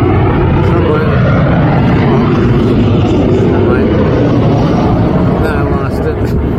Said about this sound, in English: Oh, look, there's an airplane.